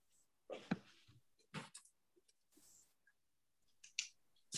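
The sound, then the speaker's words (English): Paper rustles and crinkles in a few short, uneven bursts separated by brief pauses as someone gets their paper of questions ready, with no talking. “I'm getting my paper here.”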